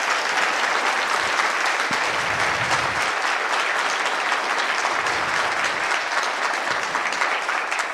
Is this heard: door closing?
no